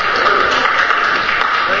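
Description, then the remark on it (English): An audience breaks into sustained applause after preaching, a dense, steady wash of many hands clapping at an even, fairly loud level, with no distinct voices rising above it. “I'm not used to applause.”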